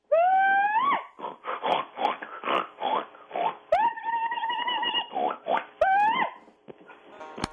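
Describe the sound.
A loud hog call by a woman who is a hog calling contest champion: a single voice lets out long, rising whooping cries alternating with quick bursts of throaty grunting and snorting that imitate pigs, with no other talk.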